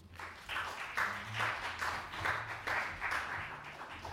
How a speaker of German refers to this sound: Einen großen Applaus für Albrecht, Alfred, Alfred Tom, Schöngrün. Tom. Applaus.